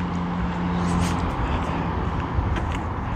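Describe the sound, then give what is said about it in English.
Steady traffic noise from cars idling, stacking up and rolling through stop signs at a three-way intersection in the middle of a neighborhood, a continuous low rumble with a faint engine hum, no talking. “And it's astonishing to me how often there are two or three or four or five cars stacked up at those stop signs.”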